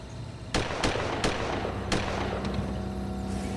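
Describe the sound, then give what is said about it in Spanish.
Several sharp gunshots, heard from a car waiting in a side street, crack out at irregular intervals, four loud reports followed by a couple of fainter ones, over a steady low rumble with no voices. “Holliman dijo que estaba esperando en una calle secundaria que Kelly volviera cuando oyó disparos.”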